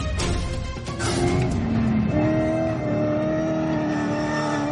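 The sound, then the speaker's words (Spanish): A Dakar rally car engine revs hard, its pitch climbing and dropping as it accelerates, with a loud gritty roar that holds steady throughout. No one speaks. “imágenes de Fernando Alonso pilotando un coche del Dakar”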